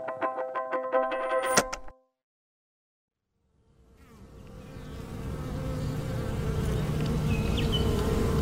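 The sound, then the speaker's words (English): Honeybees buzzing in a dense, steady drone that swells in after a short pause, growing louder as a swarm-like hum fills the scene, preceded by a brief tonal musical sound. “Imagine you are a bee, a honeybee, and every morning you wake up in the greatest place on Earth.”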